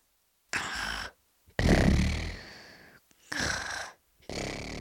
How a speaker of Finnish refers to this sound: Jokaisesta talvipesästä kuului vain pelkkää kuorsausta.